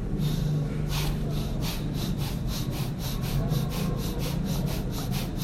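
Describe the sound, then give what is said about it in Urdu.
Forceful, rhythmic breathing in a meditation exercise in which the word Allah is drawn with the breath and struck on the heart, with eyes and lips closed, done fast, forcefully and continuously: rapid raspy pulses of breath, about three per second, continuing steadily at an even loudness with no talking. “تو یہ بائیں کس طرف جو دھڑکنے والی جگہ ہے قلب, اس سے لفظ اللہ سانس کے ساتھ کھینچ کے وہ کی ضرب اس پہ لگائیں گے اس طرح اللہ ہوں.”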